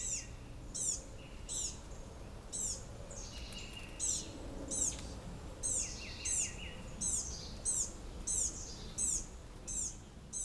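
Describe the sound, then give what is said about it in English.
Thin, high bird calls repeat in quick bursts every half second or so, soft, over a low outdoor hum with faint insect-like buzzing; a family of small blue-gray gnatcatchers calling softly on a mountain. “That soft calling involves a family of blue-gray gnatcatchers, one size up from a hummer.”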